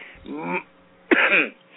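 Two harsh bursts of coughing and throat clearing, the second louder and more abrupt, separated by a brief pause, with no talking around them.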